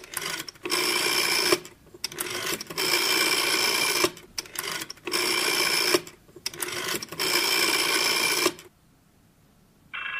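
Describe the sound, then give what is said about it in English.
An old coin-operated rotary telephone dial being turned and released several times to dial a number, each spin followed by a rapid ratcheting whir, with brief pauses between digits before falling quiet. “And dial the number.”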